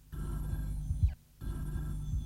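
telephone ringing

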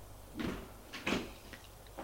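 apartment door closing

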